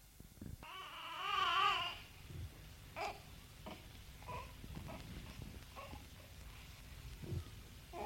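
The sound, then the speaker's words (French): A baby boy lets out one loud, wavering wail lasting about a second, then settles into quieter, scattered whimpers and fussing sounds, with no talking. “Il entend son fils qui pleure.”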